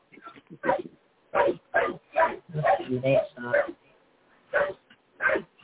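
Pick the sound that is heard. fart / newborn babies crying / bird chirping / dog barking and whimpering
dog barking and whimpering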